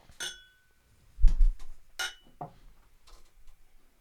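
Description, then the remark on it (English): Glasses clink together in a toast over barrel-aged strong ale beer, a bright ringing tap followed by a few softer chinks and a dull thump, with no talking. “So, cheers. Cheers. Yeah, cheers.”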